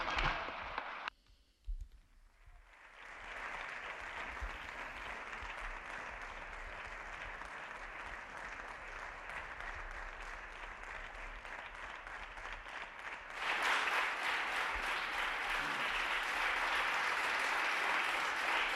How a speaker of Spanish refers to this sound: Aplauso del Grupo Popular al presidente del Partido Popular.